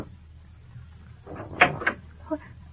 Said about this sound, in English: Well, I'm anxious to get moving anyhow, so even though it's pretty early, I go down and knock on her stateroom door.